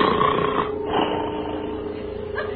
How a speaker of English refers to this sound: But while Riley sleeps blissfully, he is unaware that the door is slowly opening. Slowly, inch by inch, the door creaks open.